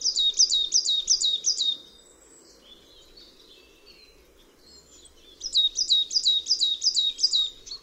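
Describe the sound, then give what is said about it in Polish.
A marsh tit sings two bursts of rapidly repeated identical two-note phrases, the first note higher than the second, separated by a few seconds of quiet with faint other birds and a steady low background hum. “Jej śpiew złożony jest ze zwrotek złożonych w całości z identycznych dwusylabowych fraz, w których pierwsza sylaba jest wyższa od następnej.”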